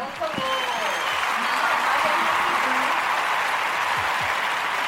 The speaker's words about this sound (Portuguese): Peraí, deixa o pessoal acabar de bater palmas.